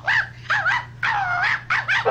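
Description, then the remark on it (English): A puppy-like dog gives four loud, high-pitched yapping barks in quick succession, over a faint steady hum and with no talking. “Yep, a dog. A puppy-like dog.”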